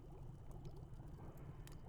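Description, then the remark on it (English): Water at a steady boil, a continuous low bubbling rumble with a few faint pops and hisses on top, fairly quiet and with no voices. “it's boiling now, but I don't know what to expect.”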